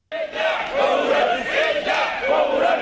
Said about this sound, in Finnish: Mielenosoittajat huutavat arabiaksi, että heidät pitäisi evakuoida kiireellisesti. Harva kuitenkaan kuulee tai kuuntelee iskulauseita Libyan pääkaupungin Tripolin syrjäkaduilla.